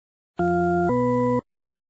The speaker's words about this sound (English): For years, psychologist Diana Deutsch of the University of California at San Diego has been studying a musical illusion called the tritone paradox. Listen carefully to these two notes.